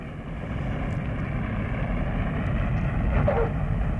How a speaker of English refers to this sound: Ladies and gentlemen, we're coming in for a landing at Don Mueang Airport in Bangkok. Will you fasten your seat belts, please, and extinguish your cigarettes?